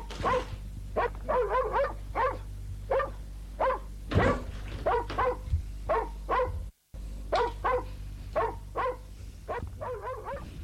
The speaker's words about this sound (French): la met au chien qui semble tout heureux.